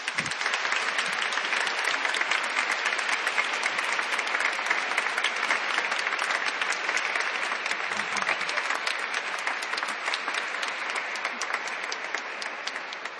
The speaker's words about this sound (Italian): Di solito non si dovrebbe, però un po' di contentezza ce l'abbiamo, possiamo anche fare un applauso.